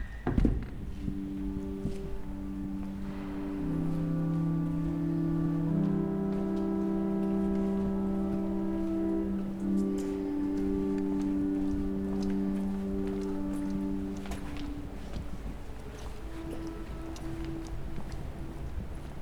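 Cavernous interior of the Saint-Nicolas basilica in Nantes, with sustained, overlapping organ chords ringing for several seconds, scattered footsteps and small knocks echoing in the large space, then quieter reverberant room tone.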